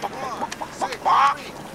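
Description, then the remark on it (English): A man's voice imitates a chicken clucking, a quick string of short, nasal bursts ending in one louder, drawn-out squawk, clear against a quiet background. “… makes the chicken noise.”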